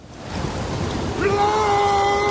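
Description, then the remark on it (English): Heavy rain falls in sheets during a storm at Naknek on July 4th, a dense, steady hiss that fills the whole moment, with a thin whistling tone of blowing wind rising over it halfway through. “And sure enough, on Saturday, July 4th, the weather changed, the temperature dropped, the rain fell in sheets, and that wind did blow.”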